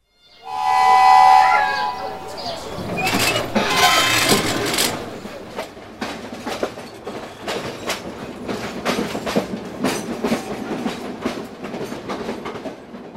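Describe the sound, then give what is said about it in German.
An almost 100-year-old train carriage with wooden benches, on the early-morning train from Palma to Sóller on Mallorca, rolls along the rails with a steady clickety-clack of wheels over track joints, preceded by a brief whistle-like tone and loud rumbling as it gets moving, heard from inside. “Auf Holzbänken sitzen wir in dem fast 100 Jahre alten Wagen.”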